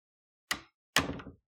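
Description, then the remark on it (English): A door swings shut behind the listener in two quick knocks: a short wooden clack, then a heavier thud that rattles briefly as it settles closed. No voices. “You hear the door close behind you, and she motions you to her without looking up.”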